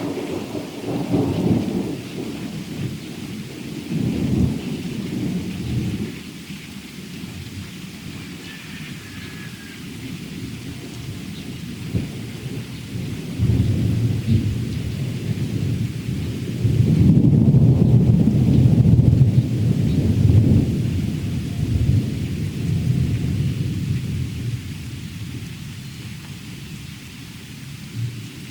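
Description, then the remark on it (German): Deep thunder following a flash of lightning rumbles and rolls through steady rain, swelling into a louder crack and boom midway before fading back to a low growl, with no one speaking. “Und jetzt müssen wir gleich noch einen abwarten. Da kam Blitz.”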